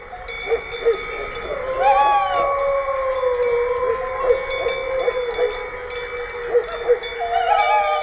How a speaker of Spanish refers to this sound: Lejos, no era un peligro. Sí, está lejos, pero ladra el perro ya avisando. Pero ahí estaba, desde el corazón del conflicto, estaba aullando un lobo.